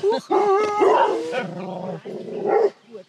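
Several dogs bark loudly and territorially as someone approaches, their overlapping barks and yelps running almost without pause for a few seconds before breaking off abruptly.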